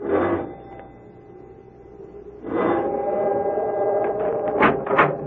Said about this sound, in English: However, after a moment, she made her way to the large oak door and rang the bell.